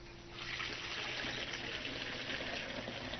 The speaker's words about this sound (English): Now, to put some water in the tea kettle.